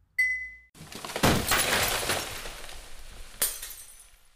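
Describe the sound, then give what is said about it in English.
A brief bright glassy ping, then a sharp crash as a glass Christmas ornament, tapped off the Christmas tree by a kitten's paw, shatters, with tinkling shards scattering and a second smaller clatter near the end. No voices. “He wants so badly to be a good kitty, but certainly one little tap of one little paw against one little ornament won't hurt.”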